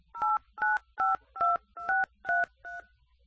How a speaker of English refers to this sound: I hear you pushing buttons, sir, but I would need you to tell me by mouth what your account is. I am telling you the number. I am typing the number on the pad.